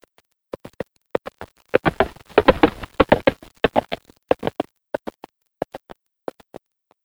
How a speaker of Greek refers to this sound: Άλογο που καλπάζει.